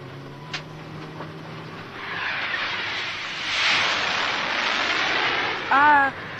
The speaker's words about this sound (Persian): هواپیما نگاش کن هواپیماه اون در لقه باز بشه میافتی پایین ها